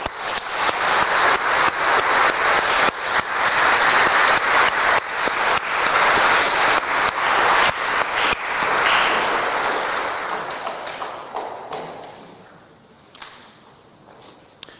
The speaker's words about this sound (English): So after their hard work and meditation, I think all of the adults and parents would like to give them an applause for this.